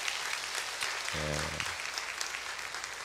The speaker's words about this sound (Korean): 여러분의 귀한 예배와 또 찬양, 올 한해 섬김을 통하여서 우리 영광 받으시고 우리 하나님 앞에 감사와 영광 박수 올려드립니다.